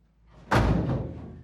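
A heavy door slams shut with one loud, close thud, followed by a short metallic rumble as it settles. No voices are heard.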